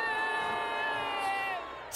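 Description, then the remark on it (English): A concert crowd at a show in England boos the performer after he asks to use the bathroom, a long, sustained boo of many voices blending into one steady, slightly falling drone that holds for about two seconds before cutting off abruptly. “Why are they booing him?”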